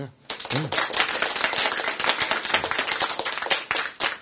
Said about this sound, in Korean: 박수.